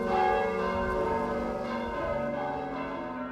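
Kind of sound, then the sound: signal or alarm, church bells ringing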